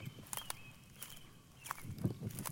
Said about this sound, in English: That's an American robin. They have a red belly. They have a three-note sort of swooping chirp that they do.